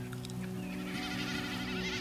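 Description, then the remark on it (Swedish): A common snipe's drumming display: a fast, throbbing, bleating hum that wavers steadily for about two seconds, clear, with a low steady drone beneath it; made by the vibrating tail feathers as the bird dives through the sky in courtship, coming and going in waves as it moves. “Men enkelbeckasinens spelläte går liksom mycket snabbare.”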